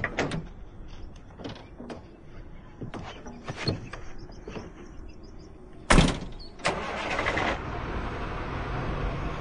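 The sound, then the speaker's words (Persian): Scattered knocks and clatter, then a heavy door slams and a truck loaded with people roars to life, its broad rumble holding steady as the truck pulls away. No one speaks. “کامیون حرکت کرد قربان، حرکت کرد.”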